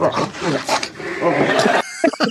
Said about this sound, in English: A little snort.